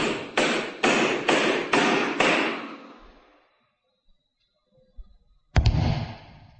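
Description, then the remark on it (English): A hammer drives nails into the lid of the last of several heavy, coffin-shaped wooden boxes filled with holy earth, in a castle passageway. It strikes six quick, evenly spaced, resonant blows, then pauses before one final heavy strike rings out. No one speaks. “The last box is being nailed down.”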